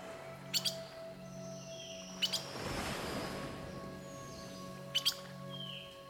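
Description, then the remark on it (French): Birds chirp in quick paired bursts that recur three times, with faint whistled calls between them, over a steady ambient hum and a soft swell of noise in the middle. “Ses papillons et ses oiseaux.”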